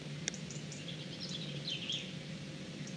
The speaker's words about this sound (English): I'm underneath the stars on the University of Exeter's Penryn campus, and despite the stars still being out, the birds are starting to sing. I've just had the first few robins starting up. I don't know if you're able to hear them.